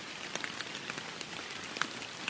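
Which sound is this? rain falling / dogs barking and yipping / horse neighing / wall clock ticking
rain falling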